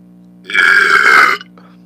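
A single loud, drawn-out burp lasting close to a second, with a raspy, tonal quality and a faint low hum in the background.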